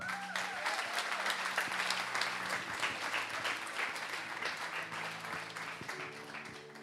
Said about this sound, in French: On les applaudit.